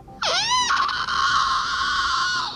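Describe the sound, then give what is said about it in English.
A voice imitates a shriek: a high, piercing cry that first swoops and warbles, then holds a long, strained, steady pitch for about two seconds before cutting off. “Then he heard a shrieking coming from outside.”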